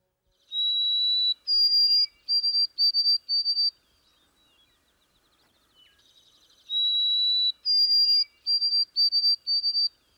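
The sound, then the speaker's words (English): A white-throated sparrow sings two songs separated by a pause, each a long pure whistle stepping up to a higher note, then a run of quick repeated whistled phrases, clear and high-pitched. “For instance, some New Englanders represent the white-throated sparrow song as "Oh, Sam, peepity, peepity, peepity," while their neighbors north of the border use "Oh, sweet Canada, Canada, Canada."”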